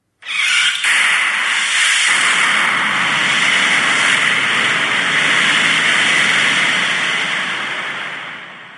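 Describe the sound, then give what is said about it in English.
A sharp puncture at the very start, as a nail is driven through a battery, gives way to a loud, steady, roaring hiss of the battery venting fire, sustained without a break for several seconds and easing slightly at the end. “They drive a nail through. That's the puncture sound in the very beginning.”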